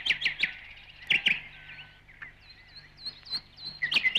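A nightingale sings alone and clear: bursts of sharp, rapid chirps alternate with thin high whistles and brief trills, pausing between phrases against a quiet background.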